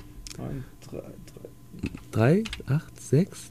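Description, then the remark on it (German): Several light, irregular taps on a phone keypad as a telephone number is dialed digit by digit, mixed in with voices talking and exclaiming. “Naja, ich lasse ihn mal tippen.”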